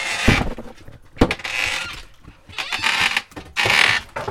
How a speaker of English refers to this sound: honestly, the delicious creakiness of this door made it worth the risk.